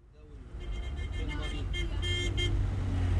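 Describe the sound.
Heavy traffic on the 15th of May bridge in Cairo, Egypt, rumbles steadily and grows louder as people weave in and out on their way home from work, with several car horns honking in short bursts and overlapping toots, and faint voices somewhere in the mix.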